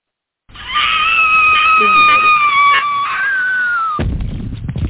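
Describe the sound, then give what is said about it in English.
A woman's loud, sustained high-pitched scream as she falls out a window, wavering slightly and gliding downward, lasting about three and a half seconds before cutting off into a burst of noise. “Not a Wilhelm scream, but that was loud.”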